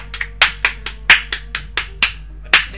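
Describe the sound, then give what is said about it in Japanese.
A short burst of hand clapping, around a dozen sharp claps at a quick, slightly uneven pace, fairly loud, with no voices over it. “なんと2000人の皆様に聞いていただけてると 素晴らしい いうデータが出まして、 拍手。”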